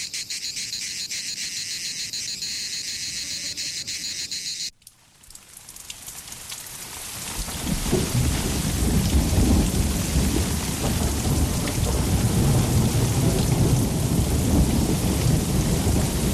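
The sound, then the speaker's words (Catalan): A few seconds of steady cricket chirping give way to a thunderstorm: heavy rain hisses loudly and continuously while deep thunder rumbles underneath, building and staying strong to the end. “I pel que fa a la pluja, en un any en què la sequera ha tingut un paper important, un cop més Sant Cugat ha viscut un estiu força sec, malgrat algunes tempestes intermitents.”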